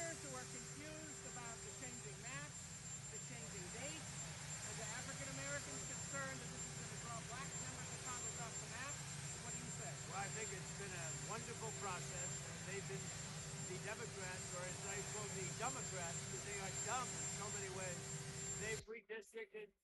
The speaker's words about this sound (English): Hopefully the sound quality is better on this. It's always a helicopter in the background.